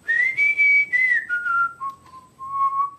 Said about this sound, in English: When I come here, I always whistle, and then the owls come out from their hiding places. When visitors come here and they request to see them, I whistle, and as usual, they come out.